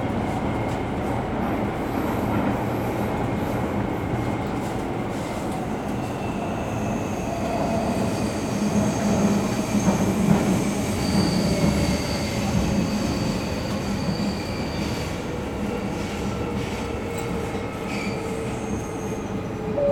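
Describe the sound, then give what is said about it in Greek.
A train rumbles steadily along the rails for the whole stretch, a constant heavy roar with high, thin wheel squeals drifting in and out above it. “Επόμενη στάση, Συγκρούφιξ. Next station, Συγκρούφιξ.”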